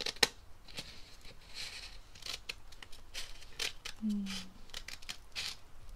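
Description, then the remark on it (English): Scissors snip through paper in a series of crisp cuts, each a sharp papery swish repeated at an uneven rhythm, with a faint low hum partway through. “I like the sound of paper being cut, but I don't like the sound of paper getting crinkled.”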